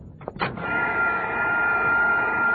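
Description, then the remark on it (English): A vacuum cleaner, being run on a table and sucking up sauerkraut, clicks on and quickly rises into a steady, loud motor whine with a high-pitched hum, running continuously with no one speaking. “take that vacuum cleaner off the table. You're sucking up the sauerkraut.”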